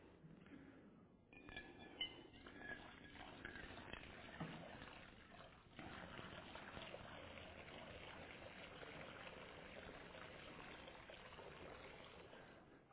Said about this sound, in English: So I'm going to pour the water and I want you to try and listen for that sound.